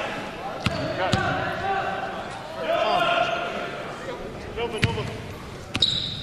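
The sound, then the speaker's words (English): A basketball is dribbled at the top of the key during a basketball game, bouncing on a hard gym floor in a few sharp, irregularly spaced thuds, ringing against a steady background of crowd noise and indistinct voices. “Dribbles top of the key.”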